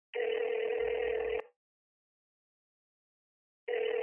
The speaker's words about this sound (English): picks up his phone and calls his friend